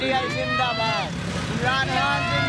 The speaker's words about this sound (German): Ein Autokorso mitten in der Nacht in Islamabad. Junge Männer sitzen gequetscht in Autos, zu dritt auf Motorrädern, schwenken grün-rote Fahnen. Darauf der Kopf von Imran Khan und der Cricketschläger.